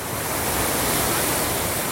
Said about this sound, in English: A big wave!